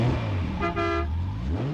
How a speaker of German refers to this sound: Aber auch mit so einem Flitzer kann man Musik machen. Aber wie? Da gibt es zum Beispiel eine Hupe.